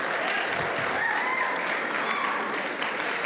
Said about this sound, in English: So much applause, I love it.